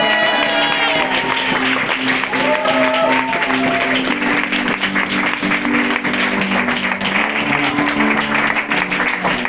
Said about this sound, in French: Voilà, pendant ce temps-là, c'est la première goguette des musiciens. Vous pouvez les applaudir deux fois plus fort.